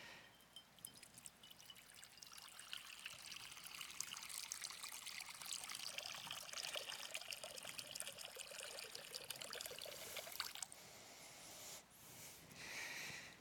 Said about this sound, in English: He fills a basin and he gets down.